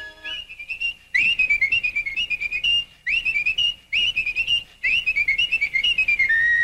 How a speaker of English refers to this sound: Only fast whistlers could whistle while they worked.